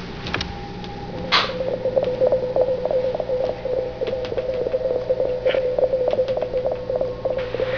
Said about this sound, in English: A sine wave. Same response as our moon base. That means the mothership is blind.